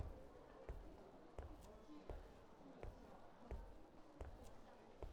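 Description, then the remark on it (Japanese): Steady footsteps of a person out for a walk, at an even pace, about eight distinct thuds over a few seconds, moderately loud against a soft background hiss. “足音を聞いているととてもリラックスした気持ちになってきます。”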